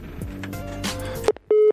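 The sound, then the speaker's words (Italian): A phone line sounds through background clatter: a brief tone, then a steady electronic beep held for about a fifth of a second, loud, as a call is placed to the president of an association. “Adesso sto cercando di chiamare per voi”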